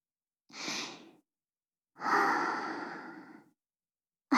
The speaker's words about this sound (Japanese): どう？おちんちんに吐息かけてみたわ。